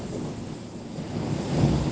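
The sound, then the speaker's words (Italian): Steady roar of strong wind, about 25 knots, buffeting the microphone, with a rushing, surging wash like waves at sea, swelling slightly louder toward the end; no voices. “Adesso sono 25 nodi, ma mezz'ora fa ce n'erano 3, un'ora fa 15, insomma continua a salire e scendere.”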